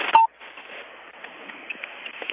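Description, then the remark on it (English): A brief phone keypad tone beeps at the very start as a caller presses pound one to mute on a conference call, then fades into a steady, thin hiss of static on the open telephone line with no one talking. “If everyone could please hit pound one if you're not presently speaking, hopefully it will clear up.”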